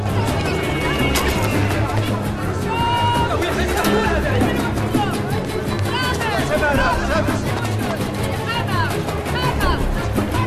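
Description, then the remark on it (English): Dense crowd bustle fills the scene: many overlapping voices chattering and calling at once, with footsteps, clatter and general commotion of a market packed with shoppers, steady throughout. “They're in a market packed with shoppers.”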